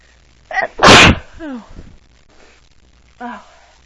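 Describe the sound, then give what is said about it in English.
A quick sharp inhale followed by a single loud, explosive sneeze on an allergy day, then a few short voiced sounds and a brief breathy vocal noise afterward. “I could have sworn I was gonna sneeze.”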